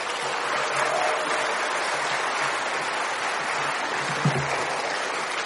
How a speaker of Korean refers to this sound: 나오실 때, 목사님 나오실 때 큰 박수로 맞이해주시면 감사하겠습니다.